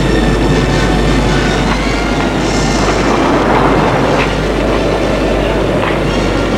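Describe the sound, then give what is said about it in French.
A storm rumbles steadily throughout, a loud, dense roar of low, rolling noise with a rough, churning texture and no clear breaks or voices. “L'orage est autour d'eux.”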